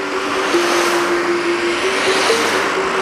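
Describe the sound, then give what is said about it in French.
Steady roar of car traffic at a roundabout in the Grésivaudan, a continuous engine drone with a low hum, fairly loud, with no one speaking. “Perdue au milieu d'un rond-point du Grésivaudan, j'attends la voiture divine.”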